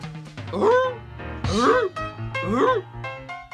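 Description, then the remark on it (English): A female hound lets out three loud, drawn-out calls somewhere between a bark and a bay, each rising then sliding down, over a low steady background hum. “It was a half bark, half bay that's common among your foxhounds, your bloodhounds, your bassets, and your beagles.”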